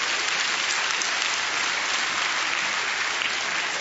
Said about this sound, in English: I don't know why, but sometimes we feel guilty if we clap because we're excited. We can go to a game and clap and shout, but well, I better not do that in church.